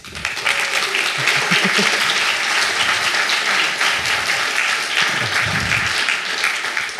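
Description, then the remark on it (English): An audience at a talk applauds the project's top bug closers steadily for about seven seconds, a dense, even wash of many hands clapping at fairly loud volume, with a few faint voices murmuring underneath. “Applause.”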